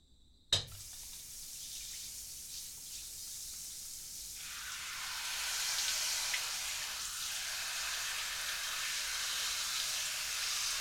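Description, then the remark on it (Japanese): A shower starts with a sudden click and rush, then runs as a steady, hissing spray that grows fuller and louder about halfway through, with no one speaking. “はシャワーから行きます。”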